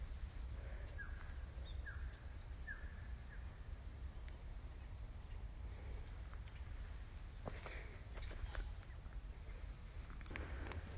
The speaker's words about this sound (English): That squawk was suddenly forgotten. I've forgotten its name. It'll come back to me, I can't quite remember. A wattle bird is the word I was trying to think of.